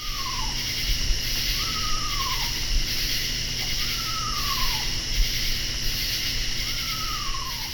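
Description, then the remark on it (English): An eastern screech owl gives four descending, whinnying calls at steady intervals from dark woods, over a constant background chorus of crickets and insects. No one speaks. “What better than an eastern screech owl calling eerily from a dark woods to conjure up a Halloween landscape?”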